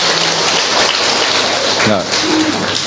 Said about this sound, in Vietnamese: Và cho một tràng pháo tay coi, chào bà lên coi.